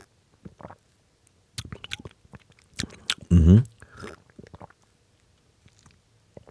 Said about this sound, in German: Ich habe erst einen vorsichtigen Schluck genommen. Jetzt habe ich einen etwas größeren Schluck noch genommen.